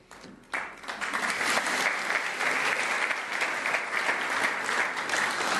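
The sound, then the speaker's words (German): A crowd breaks into applause after a brief quiet start, the clapping swelling quickly into a dense, steady wash of many hands that holds at an even, fairly loud level throughout. “Wer möchte noch einen Applaus?”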